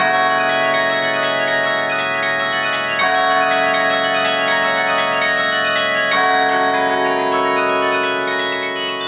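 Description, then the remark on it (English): Carillon bells at Longwood Gardens ring out together in a sustained, resonant wash of overlapping tones, with fresh strikes around every three seconds, loud and full, with no voices. “sets of bells played together on an instrument known as a carillon, played here by Lisa Loney for a recording at Longwood Gardens”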